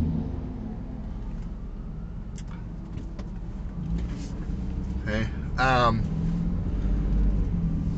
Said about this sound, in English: Oh, here comes the fire truck. That doesn't have its sirens on.